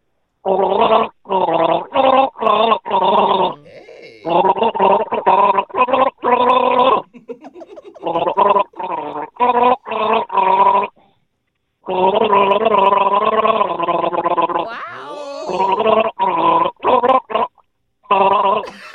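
A person gargles a tune through a mouthful of carbonated soda, bubbly pitched bursts rising and falling in a sung melody over about nineteen seconds, with short pauses between phrases.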